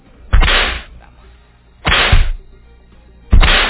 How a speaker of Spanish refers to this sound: Vamos con los latigazos.